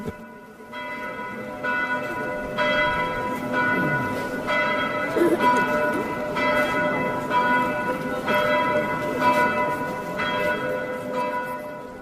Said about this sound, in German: Diese Glocke war genannt als Dominikal oder Dominik. Dominikus. Und in diesem Sinne hatte die Firma die Glocke mit dem Relief des heiligen Dominikus ausgeschmückt.